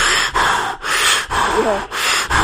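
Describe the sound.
A voice imitates scuba regulator breathing: a series of about five harsh, hissing breaths in quick succession, each separated by a brief pause, loud.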